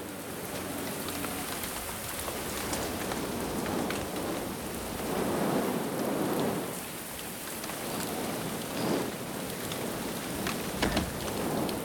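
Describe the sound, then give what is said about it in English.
Heavy torrential rain pours down in a dense, steady hiss, swelling in gusty surges as wind drives it from grey skies over a white farmhouse; loud and continuous with no voices. “A white taxi pulls up on the track and Tom and Mother get out, huddled against the wind and torrential rain.”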